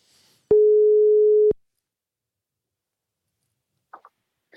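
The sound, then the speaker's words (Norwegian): A single steady, loud telephone ringback tone sounds for about a second while calling an estate administrator, followed by silence and a couple of faint clicks near the end. “Jeg tror rett og slett jeg tar en telefon til bostyreren her ja, og hører litt med han om dette her.”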